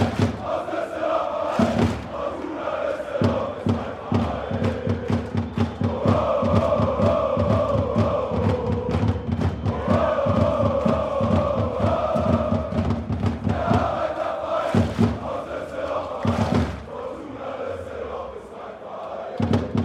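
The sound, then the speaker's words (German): A large stadium crowd of football ultras chants in unison, a loud rhythmic roar with steady pulsing beats, punctuated by sharp claps or drum hits, continuous throughout and filling the space. “Und als dann die Ultras auch noch”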